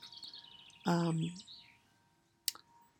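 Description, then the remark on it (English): Birds chirp and twitter outdoors in spring with wind, with a louder, fuller call breaking in midway and a sharp click near the end, over a soft, steady outdoor hush. “So just going to leave you now with the beautiful sounds of birds and spring and wind.”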